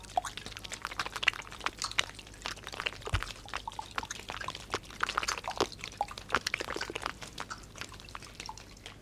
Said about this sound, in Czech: Nebe je šedivé a kape z něho voda. Voda stojí v loužích, teče crčkem po cestách. Zkrátka prší a je bláto.